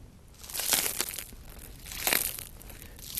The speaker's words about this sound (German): Ich habe ja hier ein Brot liegen. Ja, ja. Wenn ich jetzt einfach auf das Brot drücke und das Brot ist schon mehrere Stunden alt, dann würde das jetzt noch knuspern. Ich weiß nicht, ob man das nachher hört, aber...